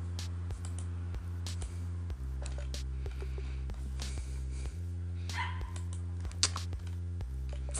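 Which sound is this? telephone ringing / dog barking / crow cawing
dog barking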